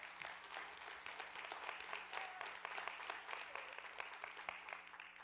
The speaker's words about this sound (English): give God one more hand clap of praise for.